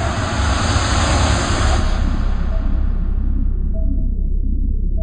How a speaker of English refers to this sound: He is starting up his sub's engines. He's ready to go.